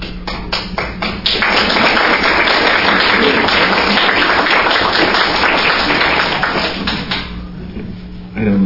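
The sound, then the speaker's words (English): An audience breaks into applause after a reading of a reflection by Jane Goodall: a few scattered claps build quickly into a dense, steady wash of clapping that holds for several seconds, then thins and fades out. “Stay silent or to applaud after that.”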